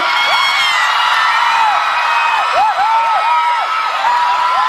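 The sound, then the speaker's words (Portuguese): A loud crowd shouts and whoops continuously after being asked to cheer, many voices overlapping in high, rising and falling cries of excitement that fill the whole stretch without a pause. “Quem gostou, dá um grito!”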